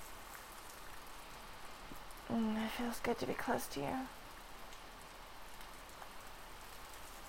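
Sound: rain falling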